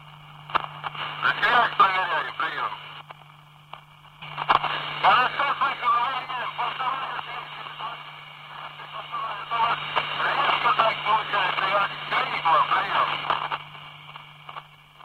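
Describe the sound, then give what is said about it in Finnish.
A garbled shortwave radio transmission picked up by Yle's Laajasalo monitoring station around 10 a.m. on the 20.006 MHz frequency: a constant hum and steady whistle tones under bursts of distorted, unintelligible chirping that cut out briefly after a few seconds, then resume. “Yleisradion Laajasalon tarkkailuasema sieppasi tänä aamuna noin kello 10 aikoihin 20006 megahertsin jaksoluvulla ääntä, joka kuulosti seuraavanlaiselta.”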